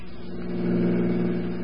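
A car engine hums loud, revving with a steady low drone that swells briefly before settling as the vehicle pulls away. No voices.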